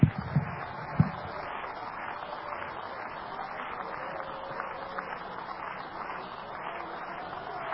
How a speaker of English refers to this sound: Clap your hands again.